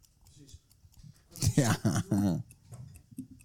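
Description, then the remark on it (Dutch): An alarm clock, running as a timer, ticks steadily and softly in the background, its regular clicks continuing throughout while a voice speaks briefly and louder over it midway. “Hoor je hem tikken?”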